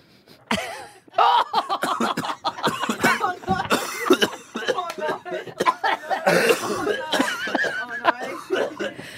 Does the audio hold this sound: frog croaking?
no